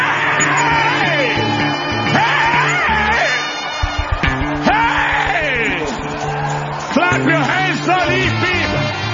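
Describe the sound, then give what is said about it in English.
A large audience shouts and cheers loudly and without pause in praise to the Lord, a 60-second shout of victory, many voices overlapping in rising whoops and cries, with scattered sharp bursts of clapping mixed into the dense roar. “And I want somebody to give him a 60 seconds shout, clap, shout, leap of victory.”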